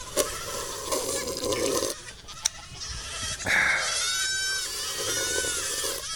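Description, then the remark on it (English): About five dozen baby goats at a house in springtime bleating over one another, high wavering cries rising and overlapping continuously for several seconds, with a few sharp clicks and no talking. “Or at least, you know, 5 dozen baby goats.”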